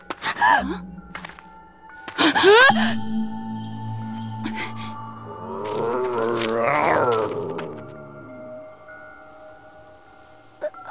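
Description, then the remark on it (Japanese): A bear roars in a few loud, strained bursts: a couple of short harsh cries near the start, then a long rising, moaning bellow in the middle before it fades out. “なんでクマ？”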